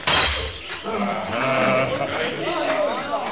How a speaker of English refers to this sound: The panther's about to scream!